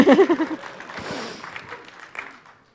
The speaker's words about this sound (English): I think it might be bad to clap for yourself in demos, but I don't care.